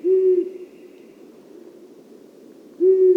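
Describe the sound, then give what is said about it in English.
Two low, steady owl hoots, the deep call of a long-eared owl, spaced about two and a half seconds apart over a soft background hiss. Each hoot is clear. “The low-pitched hoot of a long-eared owl can carry for half a mile.”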